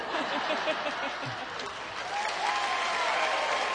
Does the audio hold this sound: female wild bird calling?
no